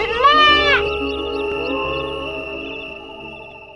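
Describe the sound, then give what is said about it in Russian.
A single plaintive bleat from a sheep tangled in thorns and trembling from fear and cold, quavering and wavering at the start, then trailing off into a long, fading drawn-out cry, with no talking. “Бедная овечка дрожала от страха и холода, жалобно кричала, но пастух был далеко и, конечно, не слышал ничего.”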